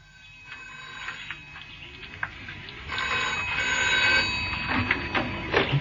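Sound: telephone ringing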